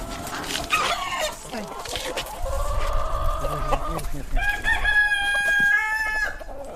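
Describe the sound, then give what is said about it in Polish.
Roosters crow in long, rising calls over a steady background of hens clucking, loud, with a busy farmyard feel throughout. “Typowa sielanka, koguty pieją, kury. Gdakają, krówki muczą, to te kmiarki.”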